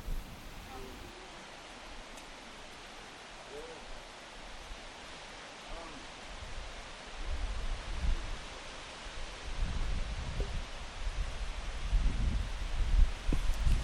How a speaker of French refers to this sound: Le vent dans les peupliers, c'est incroyable.